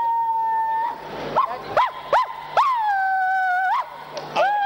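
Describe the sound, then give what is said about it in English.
A dog lets out a run of short, sharp yelping barks, about five or six, between long, high, wavering whines and howls, fairly loud and with no one talking. “That is dog. They bark with effortless.”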